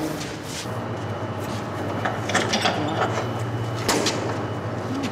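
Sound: door being opened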